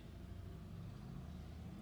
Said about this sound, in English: I wait for that motorbike to go past.